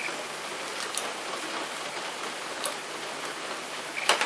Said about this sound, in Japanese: まだ雨降ってるね。